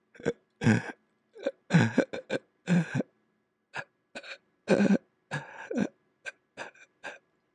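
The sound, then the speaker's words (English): A person deliberately imitates a vocal cord spasm while breathing in: a series of short, choppy gasping inhalation bursts broken by brief stops, as the vocal cords intermittently close and split the inflow of air into little bursts. The sound is loud, with no words spoken. “What you'll hear is that the vocal cords are intermittently spasming closed and segmenting the inflow of the air into little bursts.”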